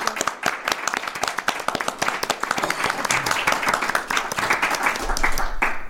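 Audience applause, a dense flurry of many hands clapping at a rapid, uneven pace, sustained and fairly loud throughout with no one speaking over it.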